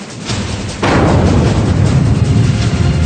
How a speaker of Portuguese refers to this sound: Imagine uma explosão enorme, como se 1000 bombas atômicas como a de Hiroshima explodissem a cada segundo.